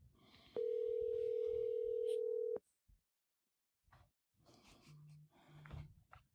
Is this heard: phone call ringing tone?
yes